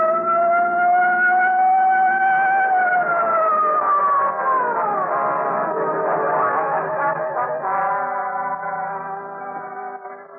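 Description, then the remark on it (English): A police patrol car siren wails loudly and continuously, its tone sliding up and down with a slight echo, holding steady throughout before fading a little at the end. “I picked up just what I was looking for. A game of tag with a police patrol car.”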